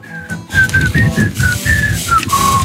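Someone whistles a short melody into the microphone, a series of sustained, slightly wavering notes rising and falling in a steady tune, with breathy low rumble underneath.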